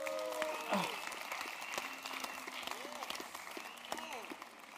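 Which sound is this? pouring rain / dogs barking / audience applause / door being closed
audience applause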